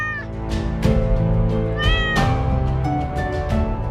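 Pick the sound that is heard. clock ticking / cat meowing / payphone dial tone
cat meowing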